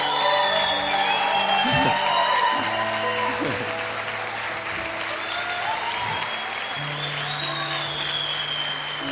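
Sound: audience applause and cheering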